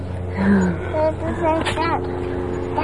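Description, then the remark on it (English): A person's voice imitates a monkey call with a few short, rising and falling hoots, moderately loud over a steady low engine-like hum. “That's the monkey.”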